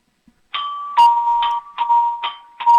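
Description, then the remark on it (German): A home doorbell in the state of Salzburg, Austria, rings in a quick run of about six bright, repeated tones at a steady rhythm, fairly loud, with no one talking. “Und was ihr für eine tolle Klingel habt, bitte.”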